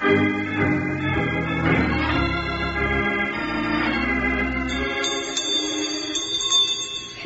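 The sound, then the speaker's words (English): A bell rings repeatedly, its bright metallic tones layering into a continuous shimmering peal that fills the whole stretch at a steady, fairly loud level, with no one speaking. “Ringing a bell? Sure, I'd like to ring this bell all the time.”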